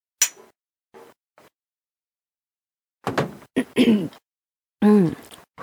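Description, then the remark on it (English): A sharp clank of cups knocked together in a toast with shots rings out once, followed by a couple of faint soft taps, then voices and breathy exclamations after a short pause. “We're going to do a bomb-ass clank.”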